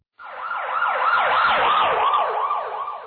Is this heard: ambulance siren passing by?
yes